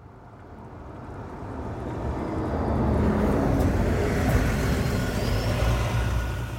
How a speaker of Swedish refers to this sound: En smutsig Volkswagen-buss romar in på Vägverkets gamla garageplan i Fredrika. Den är så nedlastad att stänkskydden släpar i marken.